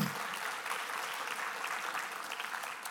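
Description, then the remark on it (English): An audience claps steadily for about three seconds for Pastor Ryan and his team after the kids' week at summer camp, a dense, even wash of many hands with no single beat standing out and no talking over it. “You can clap for Pastor Ryan.”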